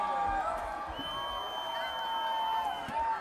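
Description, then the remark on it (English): An audience at a beer festival CD release party applauds and cheers a special guest brought on stage, steadily for a few seconds, a dense wash of clapping with high whoops and shouts rising above it, loud and continuous throughout. “applause”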